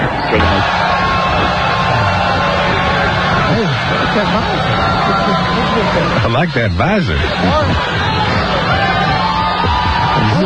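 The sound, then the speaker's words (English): A loud, continuous crowd roar with whoops and rising yells layered over each other, the cheering steady throughout while Steve Spurrier, in a Redskins visor, briefly addresses the crowd beneath the noise. “You're listening to Steve Spurrier right now, addressing the crowd.”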